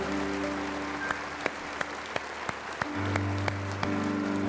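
An audience claps together at the close of a prayer in a dense, steady burst of applause, with several sharper individual claps standing out over sustained low musical tones from an instrument underneath.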